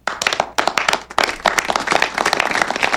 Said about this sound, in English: This is what I need. Applause. Applause.